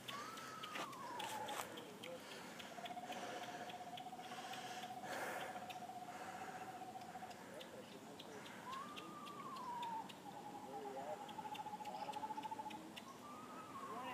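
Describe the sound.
Clear whistling from a man among a group of about eight or nine bird watchers on the other side of Cedar Creek: a few sustained, mid-pitched notes, each opening with a rising-and-falling slide before holding steady for several seconds, heard over a constant background hiss.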